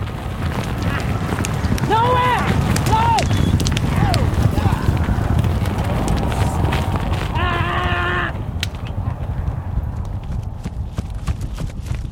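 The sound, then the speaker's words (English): An Arabian horse's hooves pound rapidly and steadily as a trainer runs it in a circle on a rope, recorded with wireless microphones on each hoof; a dense running rhythm over rumbling wind, with a few brief high calls or whinny-like cries rising above it. “I recorded an Arabian horse. Arabians have a different gait than thoroughbreds.”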